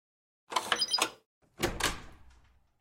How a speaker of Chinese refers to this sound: 是啊，这里就是我们的房间啊。那这是房卡，你开门吧。